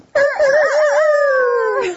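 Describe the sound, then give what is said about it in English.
A person imitates a rooster crowing: one loud, drawn-out vocal call lasting about two seconds, warbling at the start before gliding steadily downward and cutting off. “That's not a bad rooster sound.”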